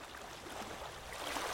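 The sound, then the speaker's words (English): A flowing water sound effect: steady rushing water fills the whole moment, a broad, even wash of flowing sound with no voices, holding at a constant moderate loudness throughout. “can you cue up some sexy water noises?”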